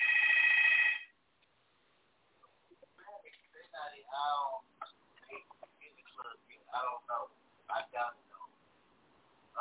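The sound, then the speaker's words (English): A phone rings once with a loud, buzzy electronic tone lasting about a second, then stops as people carry on talking. “Somebody's phone ringing.”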